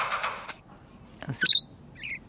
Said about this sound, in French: Vous entendez là ? Oui, ça c'est l'oiseau lire.